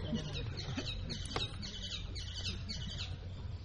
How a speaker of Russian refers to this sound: Эти попугаи не перекрикивают даже мегафон. Они любят собрания, они тоже приходят. Они любят разговаривать. Подражать начинают тоже. Кто-то кричит, они тоже кричат. Они почтальоны во Вриндаване.